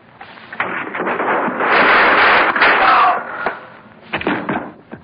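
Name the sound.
gunshots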